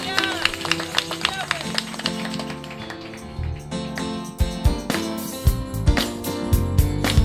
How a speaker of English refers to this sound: Come on, let's give Yahweh a hand clap of praise.